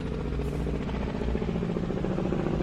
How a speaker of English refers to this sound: What the fuck is that helicopter doing? It circled the place.